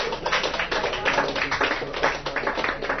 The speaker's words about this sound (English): A big round of applause for Benjamin Fondan.